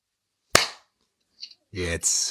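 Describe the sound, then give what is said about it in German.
A single sharp, loud hand clap that cuts off with a short ringing decay. After a brief quiet pause, someone begins speaking. “Darf ich nochmal kurz klatschen?”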